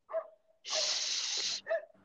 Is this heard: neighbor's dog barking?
yes